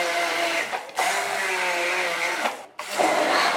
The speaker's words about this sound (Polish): Będziemy zaraz blendować, wrzucamy drobne kawałki mango. Żeby nie było za gęste, odrobinę wody. Niegazowanej oczywiście. No i działamy.